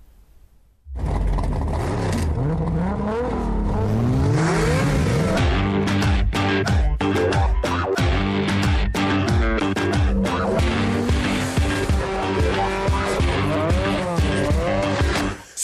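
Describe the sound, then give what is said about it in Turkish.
A car engine roars and revs hard, its pitch sweeping upward as it accelerates, with tires squealing and skidding over the loud, continuous engine noise, with no talking. “Gözlüğümü takar, birden gaza basarım.”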